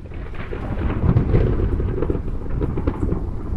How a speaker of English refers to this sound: One of our listeners, Mark from Michigan, sent this bit of sound after our discussion yesterday about the difference between sound and noise recorded on a rainy, dark day. What is that, sound or noise?